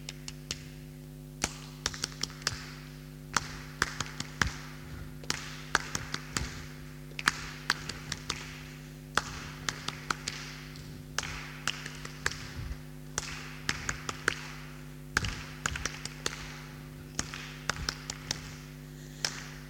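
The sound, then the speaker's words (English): A group clapping out a rhythm: crisp, sharp claps in short patterned bursts separated by brief pauses, repeating for about twenty seconds over a faint steady hum, with no talking. “What rhythm shall we clap?”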